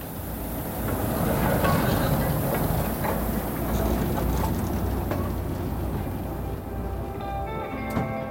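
A heritage train on the Mid-Suffolk Light Railway rumbles steadily along the track with a constant low roar and faint clattering, fairly loud throughout, with occasional high squeals toward the end.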